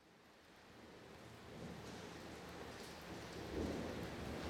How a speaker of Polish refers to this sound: A już deszcz wciąż pluszczy jak z sita w gęstych kroplach. Wtem rykły pioruny. Krople zlały się razem. To jak proste struny długim warkoczem wiążą niebiosa do ziemi, to jak z wiader buchają warstwami całymi. Już zakryły się całkiem niebiosa i ziemia.